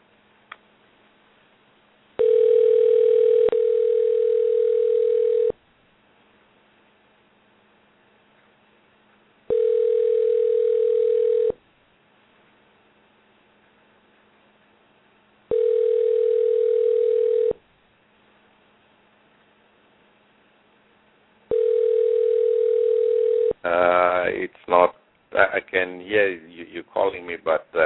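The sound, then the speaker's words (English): An outgoing phone call to a house phone rings four times, each a steady mid-pitched tone lasting about two seconds with long silent gaps between, before the line picks up and a voice begins talking. “Okay, let me call your house phone.”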